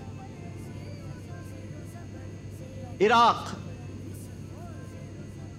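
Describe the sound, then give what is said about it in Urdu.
A steady airplane engine drone hums throughout at moderate volume in a quiz game segment where a plane carries Team Gulshan-e-Iqbal on a world tour, arriving in Iran, while a voice briefly calls out a word over it midway. “team Gulshan Iqbal کو لے کر جہاز آیا ہے ایران,”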